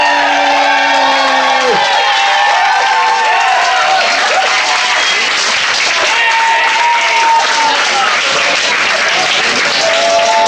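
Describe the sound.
Loud, sustained applause from a large crowd at a live stage show fills the whole stretch, dense clapping with scattered cheers and whoops, while overlapping voices and tonal sounds drift through the background.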